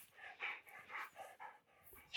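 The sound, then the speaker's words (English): A female dog pants in quick, steady breaths, a soft rhythmic huffing that repeats several times over a couple of seconds, with no talking. “You probably hear her puffing and panting.”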